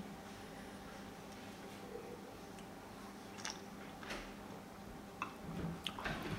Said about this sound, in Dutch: Mag ik een slokje nemen? Zeker weten.